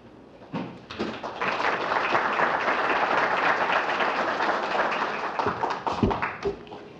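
An audience applauds steadily for several seconds as a speaker is introduced at a public talk, a dense wash of many hands clapping at once that holds at an even level, then thins out with a few scattered claps at the end.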